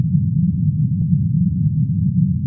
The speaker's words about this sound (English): I don't know how to describe this one. So the other sound corresponds to specialized microphones that were listening to the lava lake. And these microphones are listening to the low-frequency sound waves below the threshold of human audibility,